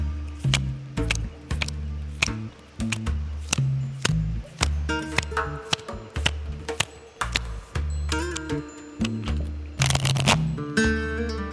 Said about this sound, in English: Take a moment to set your intention while I shuffle the deck.